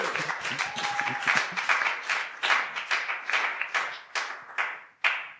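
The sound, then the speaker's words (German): An audience applauds the readers and speakers, a dense stream of overlapping hand claps that thins out toward the end, leaving a few separate sharp claps before it stops. “Wir sind ja so Klatschgesellschaft. Seien jetzt ordentlich Applaus.”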